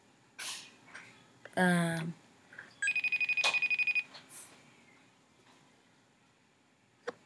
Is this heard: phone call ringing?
yes